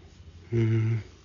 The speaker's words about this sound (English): Hi Puma. Say hello to the podcasters. Come on, don't be shy. Okay, give me a purr.